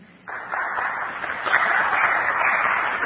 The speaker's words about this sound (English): I didn't expect applause, but it's appreciated.